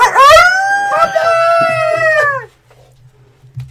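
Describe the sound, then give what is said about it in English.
Wolves howl in long, drawn-out wavering cries that overlap for a couple of seconds, loud, then break off, leaving only a faint low hum. “Is that the wolves? Are the wolves coming?”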